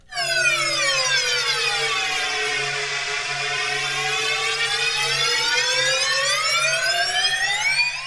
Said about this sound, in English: What happens if we plug this into here, turn this on? Oh, wait, we got to turn the thing up a little bit. Yeah, now I just invented the digital slide whistle. The slide whistle synthesizer.